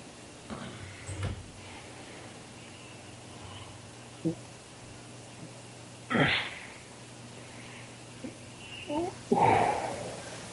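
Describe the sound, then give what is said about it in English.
Heavy breathing with a few sharp, breathy drags and long exhales spaced several seconds apart as a person smokes a cigarette, over a faint steady background hum. “Oh, no, I'm smoking a cigarette.”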